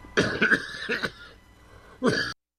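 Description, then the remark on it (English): A person coughs several times, a rough cluster of throaty coughs followed by a brief pause and one final loud cough, with no talking. “A little cough today.”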